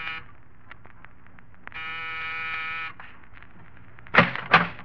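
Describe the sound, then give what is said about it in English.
A single steady electric buzz from an apartment door buzzer being pressed in the corridor of an apartment building in the East 70s, New York, rings out for just over a second, preceded by faint ticking steps and followed by two sharp thumps, with no voices. “Press a buzzer.”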